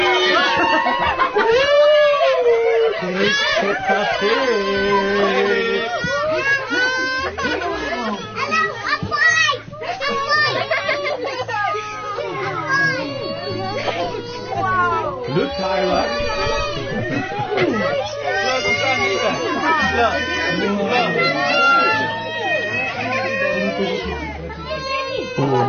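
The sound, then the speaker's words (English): A crowd of excited children swamping a Peppa Pig character shrieks, squeals and chatters over one another in a continuous loud din, with high-pitched cries rising and falling throughout and a few voices calling out. “Peppa Pig is being swamped by the fans.”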